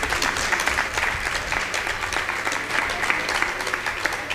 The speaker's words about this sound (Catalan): Moltíssimes gràcies. Gràcies, jo encantada. Un aplaudiment.